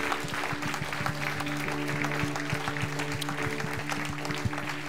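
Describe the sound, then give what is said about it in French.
A crowd applauds steadily, dense clapping with a few cheers mixed in, giving a great acclamation to the Lord at the close of an evening gathering, while a low sustained musical tone hums underneath. “Est-ce qu'on peut lui donner une grande acclamation en terminant ce soir?”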